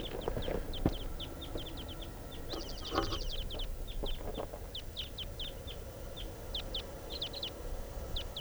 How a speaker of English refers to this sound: Flight song in the wild type 2 bird. A pair. And they have just taken off. Coming back.